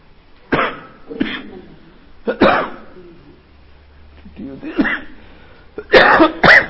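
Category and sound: human body sound, coughing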